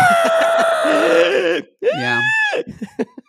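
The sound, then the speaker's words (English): A person loudly imitates the prehistoric bird scream a woman makes when she starts to fall: a long, strained screech followed by a shorter rising-and-falling cry, then a few brief vocal bursts trailing off. “But she was doing it, and then when she starts to fall, she does that prehistoric bird scream.”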